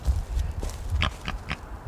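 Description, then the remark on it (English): An eagle's distress call: a quick run of short, harsh grunting squeals much like a pig oinking, repeated several times over a low background rumble. “it is kind of like an oinking of a pig sound. It's a distress call.”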